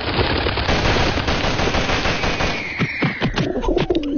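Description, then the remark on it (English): A homemade simulation of the sport of live pigeon shooting: a dense, continuous barrage of gunfire gives way to several separate sharp shots, with pigeon-like cooing and bird calls rising near the end. “Now, another sport that they used to do, which was live pigeon shooting.”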